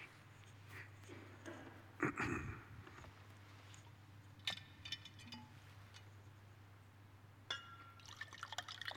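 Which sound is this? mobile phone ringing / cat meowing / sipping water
sipping water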